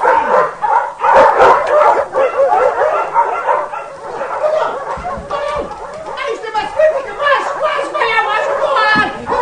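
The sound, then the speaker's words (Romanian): Several dogs bark and yelp excitedly and continuously, loud, at a stranger perched on the gate of a sheepfold, while people's voices talk and call out over the commotion. “Alo, nu-ți găseai și era, vrei să-i sfâșie câinii? Mulțumesc, stăpâni, că ți-ai chemat cotarele.”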